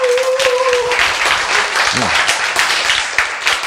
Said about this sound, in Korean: 예, 박수 치세요. 예, 예.